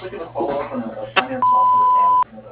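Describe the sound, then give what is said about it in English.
A voice speaks, a short click sounds, and then a single loud, steady electronic beep from the Bluefish Irrigation answering machine holds for nearly a second before cutting off sharply. “please leave the message after the beep.”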